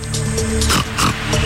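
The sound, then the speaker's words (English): A pig oinks and grunts in a few loud snorting bursts, set against a steady low humming background with no one speaking. “Pig. What animal gives you pork?”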